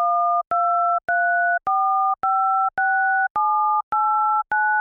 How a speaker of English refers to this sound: Here are the numbers 1 through 9 on a TouchTone phone. See if you can hear the two separate pitches for each button.